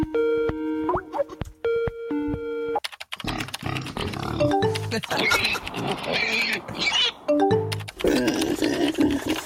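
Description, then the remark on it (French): A couple of steady electronic beeping tones, then a person snorts, grunts and oinks like a pig, loudly and continuously for several seconds. “Mon cochon. C'est Peppa Pig, ça.”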